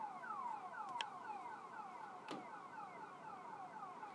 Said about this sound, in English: But yeah, welcome to, First Air's awake alarm for the whole city.